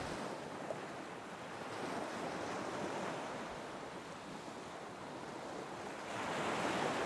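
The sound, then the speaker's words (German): Ocean waves break on a beach in a steady wash of surf, swelling and easing in slow surges, with a light breeze blowing through and no voices. “Sie landen und schlafen ungestört am Strand ein.”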